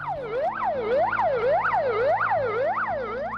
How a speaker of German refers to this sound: Aber nicht überall auf der Welt klingen die Rettungswagen gleich. Hier in Russland zum Beispiel, da hört es sich so an.